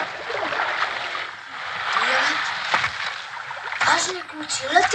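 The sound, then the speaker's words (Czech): Oars pull a boat through water on a large body of water, a steady wash of splashing and swirling broken by a few sharper strokes and splashes, moderately loud and continuous, as the boat bumps into something and rowing grows harder. “Po chvíli jsme zpozorovali, že naše loď na něco naráží a veslování bylo stále obtížnější.”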